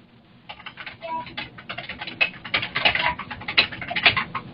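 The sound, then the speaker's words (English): Rapid, irregular clicking of keys being typed on a computer keyboard, steady, starting after a brief quiet moment and continuing throughout with no voices. “If you're typing, mute yourself.”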